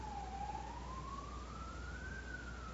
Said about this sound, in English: And there goes the police car after the motorbike.